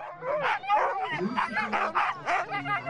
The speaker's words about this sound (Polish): Tam ścigały się na plaży psie zaprzęgi. Posłuchajmy, co stamtąd przywiózł.